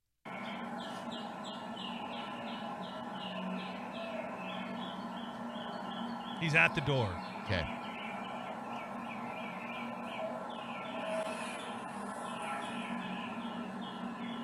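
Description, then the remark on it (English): A dense, steady chorus of birds chirps loudly outdoors throughout, with a couple of sharp knocks at a door midway and faint voices speaking briefly beneath the birdsong. “All those damn birds were so loud he couldn't hear anything.”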